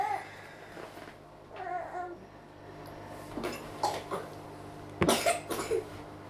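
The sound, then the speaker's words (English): A baby makes soft babbling sounds, then lets out a few short coughs, the strongest cluster coming near the end over a low background hum. “Cough, cough.”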